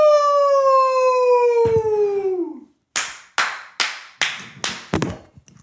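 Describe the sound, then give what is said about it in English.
A long, falling whoop of a voice slides downward, then six loud, sharp hand claps ring out in quick succession, each leaving a short echoing tail; the clapping is so loud that a microphone falls over. “The mic fell over because I clapped really loud.”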